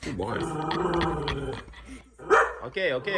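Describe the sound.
A dog named Gustave barks and yaps in a rapid, excited series, fairly loud, with a short pause before a couple more yelps. Voices are mixed in underneath.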